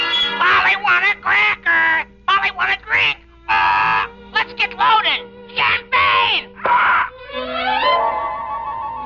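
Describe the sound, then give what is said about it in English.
Caesar the Parrot, from the radio play Champagne for Caesar, squawks loudly in a rapid, irregular string of raspy, harsh bursts with brief gaps between them, ending in a longer, steadier drawn-out call. “Ladies and gentlemen, you have just met Caesar the Parrot, a sort of feathered candidate for Alcoholics Anonymous.”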